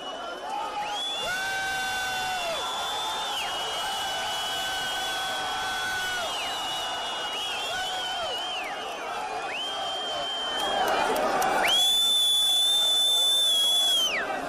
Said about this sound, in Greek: Πανηγύρια όμως είχαμε και στην άλλη πλευρά, στην Παλαιστίνη, από φυλακισμένους που αφέθηκαν ελεύθεροι από το Ισραήλ στο πλαίσιο της συμφωνίας με τη Χαμάς. Αξίζει να ακούσουμε και εκεί το τι έγινε.